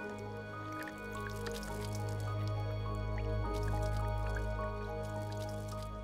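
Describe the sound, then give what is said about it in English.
Water poured onto the leaves of a taro plant trickles and drips steadily, rolling off the leaves, with small scattered droplet taps over a low, continuous background hum; moderately quiet, no voices. “Watch what happens when I pour water on them.”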